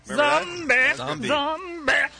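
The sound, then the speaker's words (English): A voice sings a short wordless phrase, imitating a female singer's yodel-like vocal break with abrupt pitch flips between chest and head voice, loud, in three or four bursts. “I like the little hiccup in her voice.”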